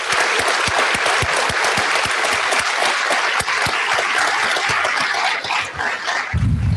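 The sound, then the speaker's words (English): People at a school board meeting clap steadily for school administrators and custodial staff, a dense wash of applause with sharp individual hand claps popping through, sustained for several seconds. “So please give a big round of applause to them as well.”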